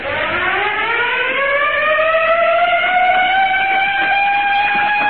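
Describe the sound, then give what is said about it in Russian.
A loud factory siren in a factory workshop wails steadily as a signal, its tone rising at the start and then holding a sustained, harmonic-rich drone for several seconds with no voices present. “По сигналу сирены цех заполнили рабочие с винтовками в руках.”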